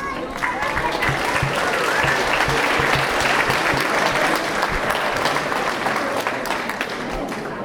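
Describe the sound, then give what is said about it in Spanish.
Sustained audience applause for a poet about to read his poetry, a dense, steady patter of many hands clapping, loud and even from start to finish. “Le brindemos fuertes aplausos.”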